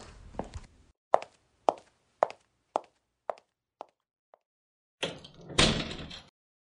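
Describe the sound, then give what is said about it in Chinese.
Someone knocks on the door of a home: the door bangs and rattles in a quick, evenly spaced series of sharp hits that fade out, then swings open and thuds shut with a louder, longer clatter. No voices. “哦，你刚才不是不给我开门吗？”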